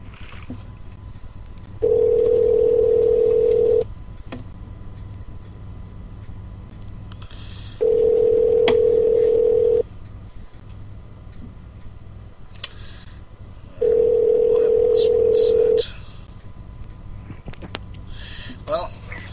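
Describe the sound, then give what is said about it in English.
A telephone rings three times, each a steady two-second electronic tone separated by long even pauses, heard clearly over a low background hum. “I suppose at some point tonight the phones had to ring a lot.”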